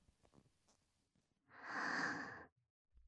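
A single long, heavy breath rushes out, loud and airy for about a second. Faint rustles come before it, and a brief click follows.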